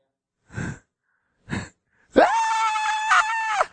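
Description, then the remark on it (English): A voice imitates a child's tantrum: two short, breathy sobbing huffs, then one long, loud, sustained high-pitched scream lasting over a second before cutting off. “That's what the child thinks when he's kicking on the floor screaming and he wants the candy in the rack and mama already said no.”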